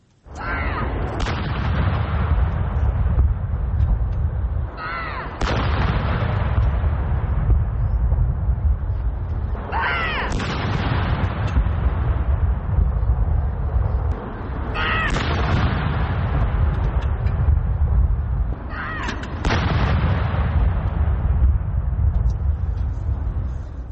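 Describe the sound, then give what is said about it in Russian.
Artillery guns fire a salute in London's Green Park marking 65 years of Queen Elizabeth II's reign: five heavy booms at steady intervals of about five seconds, each rolling into a long echoing rumble that fills the gaps between shots, with no talking. “в лондонском Грин-парке был устроен артиллерийский салют.”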